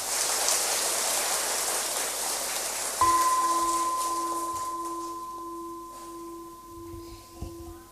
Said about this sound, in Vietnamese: Quý vị hãy cam kết trở thành người sáng suốt theo tinh thần nêu trên bằng một tràng vỗ tay thật lớn.